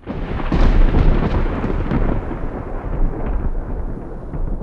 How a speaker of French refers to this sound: Lorsque l'éclair s'évapora aussi rapidement qu'il était apparu, ce fut le tonnerre qui prit le relais, grondant si fort qu'il me laissa sourd de l'espace d'un bref instant.